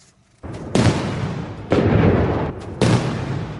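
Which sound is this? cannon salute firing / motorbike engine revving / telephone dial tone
cannon salute firing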